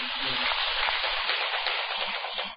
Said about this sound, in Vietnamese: Nếu thấy việc đó là lý tưởng, cần thiết và làm được, thì cô dâu chú rể và tất cả mọi người hãy dành một tràng vỗ tay thật lớn.